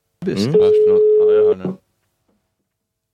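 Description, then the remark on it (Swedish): A single steady telephone ringing tone sounds for about a second, fairly loud, overlapping with voices before the line falls silent. “Jag hör signal.”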